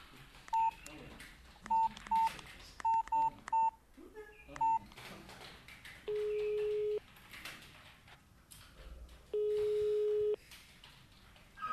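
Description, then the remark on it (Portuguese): A quick run of about nine short, clear mobile phone keypad beeps tapped in an uneven rhythm, then two long, steady ringing tones spaced a few seconds apart over faint background noise, as someone calls back from a mobile phone. “Importas de desligar e eu volto a ligar-te do meu telemóvel?”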